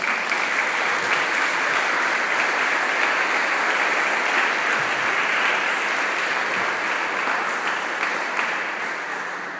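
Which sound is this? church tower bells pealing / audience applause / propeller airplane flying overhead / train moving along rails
audience applause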